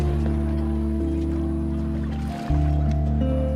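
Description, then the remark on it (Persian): A luxurious ship's engine drones steadily with a deep, humming throb under a soft wash of ocean water during a sea voyage, briefly dipping before resuming louder. No one speaks. “امروز روز خاصیه، بابا ما رو به سفر دریایی برده، بالاخره میتونم اقیانوسو ببینم، خیلی هیجان دارم.”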